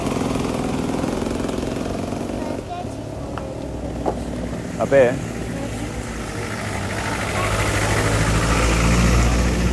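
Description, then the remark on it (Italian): A Jeep engine idles with a steady, low rumbling drone throughout, swelling slightly toward the end, while a person speaks briefly over it and a few short clicks break through. “Questa è bella come Jeep. Guarda che bella che è sta Jeep.”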